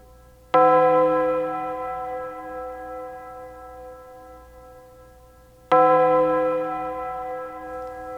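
A bronze church bell tolls twice, marking the start of a farewell ceremony, each strike ringing out loud with a rich, shimmering hum that lingers and slowly fades before the next stroke.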